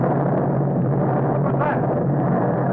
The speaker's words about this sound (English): Sounded like an explosion down near the water. Yes, it was an explosion, gentlemen. And there will be no more wrecking of warships. It was the tube of nitroglycerin intended for the new battle cruiser by Dr. Arnheim.